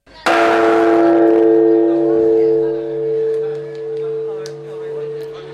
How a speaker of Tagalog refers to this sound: Sa pagtunog ng hating gabi, ginamit ng mga tao ang isang lubid upang patunugin ang malaking kampana ng templo upang magingay at salubungin ang bagong taon.